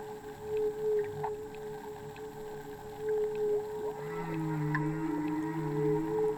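Whale calls echo through the water: long, low moaning tones and rising, sweeping cries that swell louder toward the end, over a steady underwater hum, with no one speaking.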